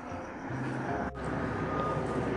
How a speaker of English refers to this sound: there's a plane, look at that.